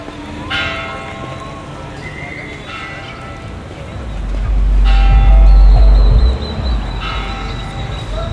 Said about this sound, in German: Das sind die drei Glocken der Kathedrale. Dieses alte Gemäuer lässt den Sound wirklich reisen, nicht wahr? Einige der Steine stammen von einem Maya-Tempel, der früher hier stand.